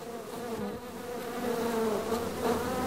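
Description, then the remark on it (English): A dense, steady drone of many honeybees from an aggressive hive buzzing together, loud, with a continuous harmonic hum that swells slightly toward the end; no voices. “Usually he can go and just wear a veil and leather gloves and a long sleeve shirt to work with them and with no problems, but he said he had trouble even getting close to this mean hive.”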